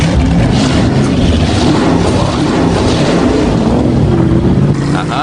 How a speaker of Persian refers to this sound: خب اینجا چی داری؟ موتور توین توربوی 327 اینچ مکعب شوی V8.